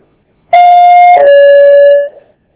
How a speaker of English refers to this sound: All right, that's the second bell, and as usual, I got lots more stuff to talk about, but it can wait for another time.